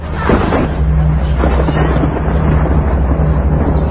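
Deep, rolling thunder rumbles steadily throughout outside a house at night, a loud low-pitched roar with a few brief swells of crackling noise, and no voices.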